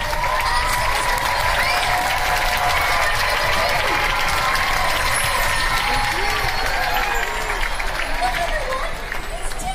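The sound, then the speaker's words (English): A large theatre audience, including people upstairs on the balcony, claps and stamps their feet in a loud, continuous roar before Disney's Believe, with whoops and cheers rising over the dense, steady din throughout. “Clap your hands, stab your feet, go!”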